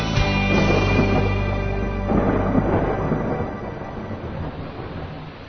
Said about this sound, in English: The lightning is flashing and thunder roars, I guess it's time to head indoors, monsoon.